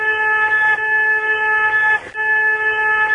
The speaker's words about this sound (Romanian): Stai, nu te mișca. Auzi, claxonează. Deschide ferestrele. Claxonează. Mai stai acolo.